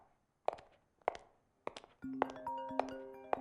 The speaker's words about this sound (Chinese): 嗯，谁呀？这么晚了给我打电话，我看看。